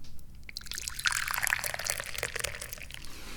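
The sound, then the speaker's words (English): Dahong Pao tea pours steadily into a cup, a bright continuous splashing trickle that rises in pitch as it fills, fairly clear, with no talking over it. “Because that means I'm the guy who pours the tea.”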